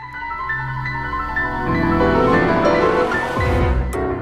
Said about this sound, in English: Gaming can be stressful, as Zelda fans will attest from the sound we just heard.